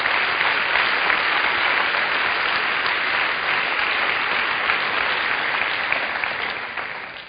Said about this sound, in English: let's clap, let's praise the Lord. Wonderful.